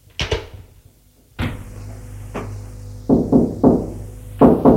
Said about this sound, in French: Frappe à la porte.